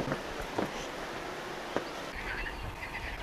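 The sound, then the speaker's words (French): A dense outdoor chorus of frogs croaking steadily at moderate volume on the banks of the Ardèche, with faint birdsong of a blackcap and a robin chirping above it and a few sharp clicks; no one speaks. “Alors là, le problème, c'est qu'il y a les grenouilles qui couvrent un peu le champ des oiseaux.”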